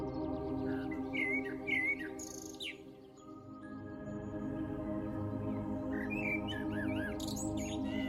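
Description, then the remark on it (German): Birds sing in bright, chirping phrases, one flurry near the start and another livelier burst toward the end, over a steady low droning bed of sound. “Bunte Vögel schweben elegant vorbei und singen ihre Lieder.”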